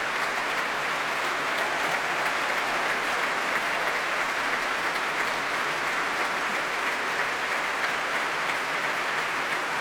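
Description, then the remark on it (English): A large Proms audience at the Royal Albert Hall applauds violinist Daniel Hope after his performance, continuously, the dense, steady clapping filling the space at an even loudness throughout, with no voices standing out above it. “Wonderful performance, warmly appreciated here by the Prommers at the Royal Albert Hall.”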